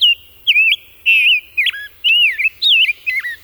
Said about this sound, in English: Head west to the Chicago Birding Trail to savor the songs of the rose-breasted grosbeak.